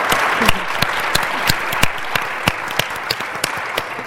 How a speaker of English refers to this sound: We're joined by some ladies from State Street, and we just heard in the lunch session that State Street is a huge supporter of the Mass Conference for Women, so a round of applause for State Street.